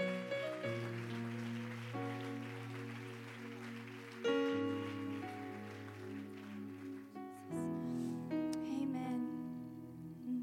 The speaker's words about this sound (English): Amen. Let's give that hand clap of praise unto the Lord.